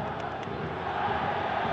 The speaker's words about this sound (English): Sounds like we're back home, doesn't it? That's the sound of the Atlanta supporters shouting the Red Bull supporters out of their own building.